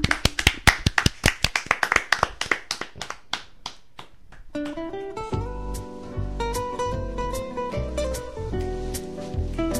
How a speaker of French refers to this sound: Et ben, on l'applaudit bien fort.